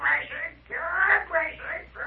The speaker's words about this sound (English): What about that parrot we keep hearing? He's my pal, he is. My pal and my watchdog. Ain't now anybody able to come within a mile of us without Belshazzar letting me know.